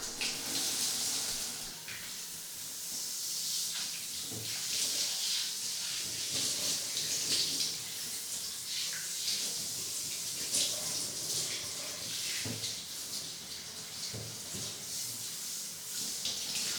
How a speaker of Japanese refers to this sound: じゃあお次はお体を洗いましょうか。シャワーで流してと。